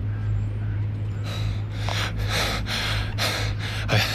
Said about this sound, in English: Fortunately, he's not much of an athlete. …'s bent over, breathing hard.